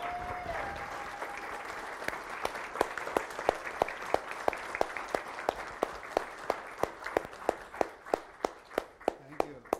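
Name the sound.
audience applause and clapping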